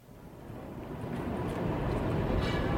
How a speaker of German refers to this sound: Das rollt und rattert, quietscht und hupt. Alles ist in Bewegung. S-Bahn, U-Bahn, die Straßenbahn, Motorräder, Fahrräder, Autos, Laster.